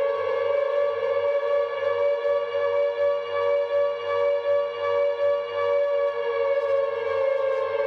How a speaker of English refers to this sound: Along with the sound clip, Konami wrote, "Close your eyes. Always scary Silent Hill 2 siren."